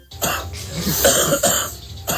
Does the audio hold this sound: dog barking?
no